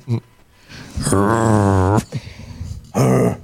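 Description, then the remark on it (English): A man makes a low, drawn-out growling noise in imitation of a dog, about a second long, followed by a shorter grunting growl after a brief pause. It is fairly loud. “This lady said, dude told me the other night he will growl in my ear.”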